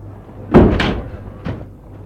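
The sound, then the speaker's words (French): A car door slams shut with a heavy, dull thud and a quick second clunk, followed a moment later by a softer knock, as people get out of a car stopped in front of a large, modern luxury building. No one speaks. “Ils sortent de voiture.”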